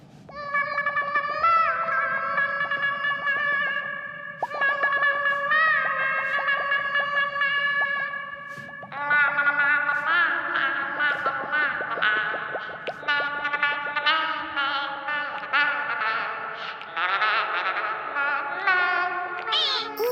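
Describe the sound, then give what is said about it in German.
Singing by the frog character Frosch after falling into the water, warped as if underwater, a wobbling, bubbly melody with heavy warbling distortion that runs steadily throughout and grows denser and busier partway through. No one speaks. “Unter Wasser klingt dein Gesang wunderschön.”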